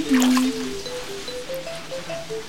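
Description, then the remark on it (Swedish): Water drips and splashes in a large, echoing hamam bathhouse where people pour buckets of water over themselves. A few wet spatters come early on, then a steady run of ringing, pitched droplets plinking one after another at moderate volume. No one speaks. “Alla har liksom en varsin hink med vatten som de häller över sig.”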